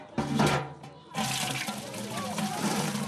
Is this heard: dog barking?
no